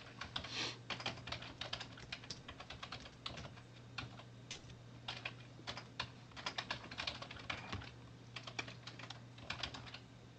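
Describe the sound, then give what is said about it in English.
Steady, rapid typing on a computer keyboard with clustered bursts of key clicks, fairly prominent, over a low constant hum, with no one speaking. “Beth, your typing is like on our recording.”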